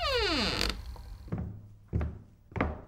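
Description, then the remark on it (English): A door in a big, old house creaks open with a tone that slides downward as someone comes into the living room, followed by three dull, evenly spaced thumps. No one speaks. “Suddenly, the door opened and Mum came in.”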